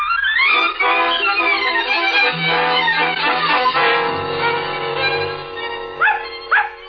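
A dog barks and yips in a high, nearly continuous string, fairly loud, ending with a couple of sharp rising yelps.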